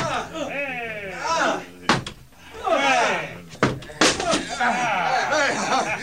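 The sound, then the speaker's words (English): A battering ram pounds a door in three heavy, booming blows, the last two close together, while excited voices shout and chatter throughout. “Open up or I'll break the door down! All right, men! Bring the battering ram!”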